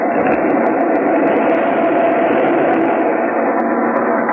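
An express train roars through a station without stopping, a loud, dense, unbroken rushing rumble with faint clicks scattered across it for the whole stretch.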